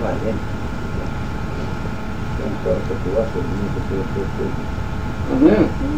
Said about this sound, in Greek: Μηχανάκι.